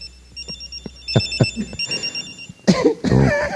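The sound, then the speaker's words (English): A space-age cell phone ringtone plays, a bright electronic pattern of high, quick repeating tones lasting a couple of seconds, followed by short, louder bursts of noise on the microphone. “Play your space age one, the one you're proud of.”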